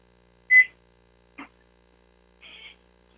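Three short electronic beeps, spaced unevenly about a second apart, as buttons are pressed to start a one-minute timer. The first is loudest and the last a little longer.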